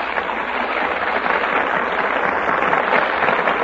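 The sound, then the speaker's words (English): Steady, dense applause from a large studio audience in the Gulf Theater as the stars take their places before the Gulf microphone, a continuous wash of clapping that stays loud and even throughout with no voices over it. “That applause is for our stars who have just taken their places before the Gulf microphone.”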